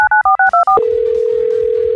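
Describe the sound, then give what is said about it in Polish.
Five quick two-tone keypad beeps are dialed in rapid succession as a call to a mother is placed, followed by a steady, mid-pitched telephone ringing tone that holds without a break. No one speaks. “zadzwoń do mamy”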